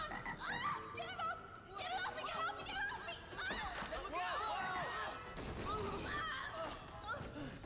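A loud, busy chorus of frogs croaking, many overlapping calls warbling and chirping at once in a continuous, crowded din with sharp bursts scattered throughout.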